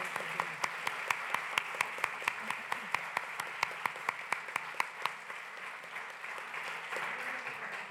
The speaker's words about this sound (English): We're grateful to you, and we just want to give you a round of applause.